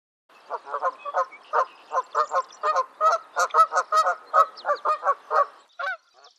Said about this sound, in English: In early spring, Canada geese sometimes nest on the small island out in the pond.